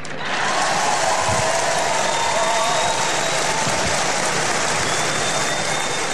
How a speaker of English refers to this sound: Well, the raucous applause goes on for quite a long time, and unfortunately, they didn't broadcast the answers, if any, that Mr. Lansley gave.